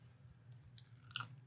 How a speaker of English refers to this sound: Isn't there like a type of phobia where people hate to hear people chewing? What's that called?